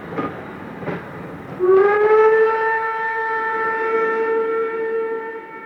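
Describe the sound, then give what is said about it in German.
A loud, sustained train whistle blasts from about 1.6 seconds and holds steadily to the end as the train departs, preceded by a couple of dull clunks like rail cars jolting into motion. “Wir fahren mit der Eisenbahn. Wir fahren jetzt ganz weit fort.”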